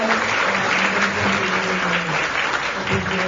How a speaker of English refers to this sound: So I really want to please give our panelists a round of applause.